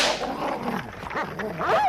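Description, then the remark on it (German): A dog off its leash barks and yelps at its mistress's carriage in an agitated, continuous run of wavering cries, rising to a high-pitched squeal at the end, with no talking. “Schnell, Watson, bind den Hund wieder an die Leine.”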